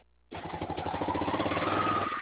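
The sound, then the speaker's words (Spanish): A motorcycle engine rumbles steadily, heard over a phone call, kicking in abruptly after a brief quiet moment and growing slightly louder as it passes, with no talking. “Ah, la moto es lo que pasa. Se está escuchando.”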